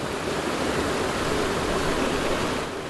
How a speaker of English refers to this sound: This water coming from the Ebro floods the rice fields of the Delta.